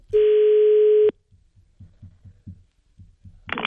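A single loud, steady ringback tone of an outgoing phone call, placed live on Radio Aswat to the direct line of the private office of the Secretary-General of the Ministry of Higher Education and Scientific Research, lasting about a second, then a series of soft, low, regular thumps and a brief burst of noise at the end.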